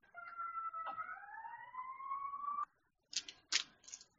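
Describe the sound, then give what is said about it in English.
A police car siren passing outside wails with a slowly rising tone for a couple of seconds, then cuts off and gives a few short, harsh bursts. “Yeah, I've kind of like tuned out the sounds of sirens, so I just have to remember to mute.”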